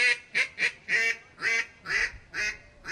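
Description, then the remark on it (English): A duck call blown in a quick series of about eight short, nasal quit notes, each a clipped quack with brief gaps between, no voices; the call is blown as if on a cold Coke bottle while saying 'quit'. “you're just going to blow on it just like you're blowing on a cold Coke bottle. And you're just going to say quit, quit, quit.”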